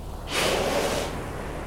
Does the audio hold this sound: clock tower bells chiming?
no